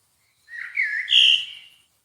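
A single clear, whistled bird call rises in pitch across a few connected notes, lasting just over a second, with no talking in the background.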